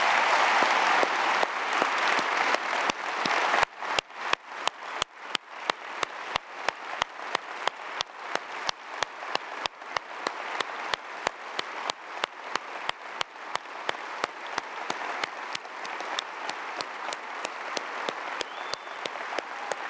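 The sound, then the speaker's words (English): A large audience applauds steadily for about twenty seconds to say thank you to people for their service to the community, a dense, loud wash of clapping that holds its strength throughout with no voices breaking through. “You already clapped once, but I want them to hear you at every campus say thank you for your service to this community.”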